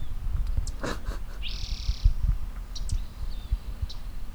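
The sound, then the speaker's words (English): Short high chirps from a bird about 10 meters from the microphone, then a steady high-pitched buzzing whine lasting about a second as it performs a shuttle display and pendulum with no dive, followed by fainter chirps, all over a low rumbling background. “So that was, I would say that's about 10 meters away from the microphone. Shuttle display, pendulum, but no dive.”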